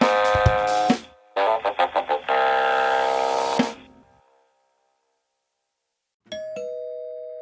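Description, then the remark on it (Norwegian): A loud, buzzy electronic doorbell rings in bursts: a long tone, a quick run of stuttering pulses, then a sustained ring that fades. After a few seconds of silence, another bright chime sounds. “Det ringte ikke på.”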